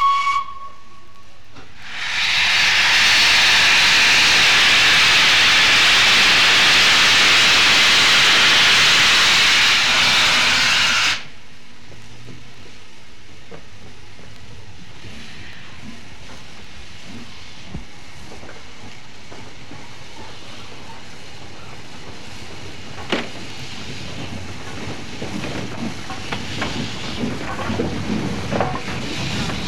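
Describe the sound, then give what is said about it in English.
The Flying Scotsman steam locomotive at King's Cross station, before departing with a train from platform 10, lets out a loud, sustained burst of hissing steam for several seconds, then settles into a quieter background of rumbling, clanking and occasional chuffs as it moves. “And when everything was ready, Flying Scotsman pulled forward from the milk dock towards the tunnel mouth outside King's Cross station, and then backed from there onto the train on platform 10.”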